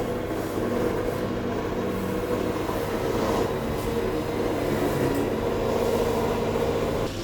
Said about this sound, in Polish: Można odesłać odkurzacz do bazy. Powrót do stacji dokującej.